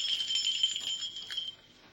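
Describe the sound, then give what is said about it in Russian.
Small Japanese porcelain bells jingle in a bright, high, shimmering cluster of overlapping tinkles for about a second and a half, then fade away quickly into quiet. “Вот эти японские, совсем удивительные, фарфоровые.”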